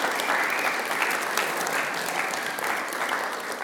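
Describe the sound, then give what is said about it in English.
Steady audience applause for the kitchen team, a dense, even patter of many hands clapping at once, holding at a fairly loud level throughout with no voices standing out. “So, yeah, a round of applause for the kitchen team.”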